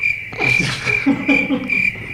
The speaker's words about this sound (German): Haben wir nicht so ein Grillenzirpen da irgendwo?